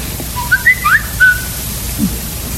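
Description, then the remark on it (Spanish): A person whistles a brief run of four or five short, sliding notes in quick succession, clear but not loud, over a low steady background hum with no talking. “¿Quién anda chiflando por ahí?”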